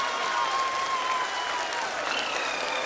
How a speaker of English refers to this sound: People are applauding. Let us all wait to hear from the Secretary, Department of Space, and Chairman ISRO, Sri S. Somnath. So, India is on the moon. That was audio of a video feed of Mission Control in India